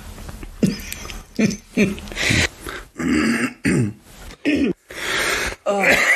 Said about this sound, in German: Du musst hier schon wieder rumhusten. Das schneide ich raus.